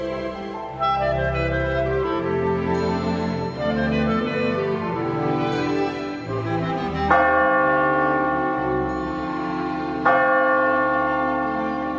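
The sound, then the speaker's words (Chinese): Church bells peal at midnight on Christmas in a full, ringing cascade, overlapping strikes swelling with fresh accents every few seconds, resonant, with no voices over them. “12点的圣诞钟声敲响了大街小巷”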